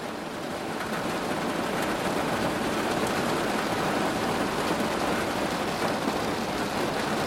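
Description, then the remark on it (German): Steady, dense rain of a thunderstorm hissing evenly throughout, a constant wash of drops with no pauses or distinct rumbles, and no voices. “Alles verblasst und wird eins mit dem gleichmäßigen, beruhigenden Klang des Regens und des Gewitters.”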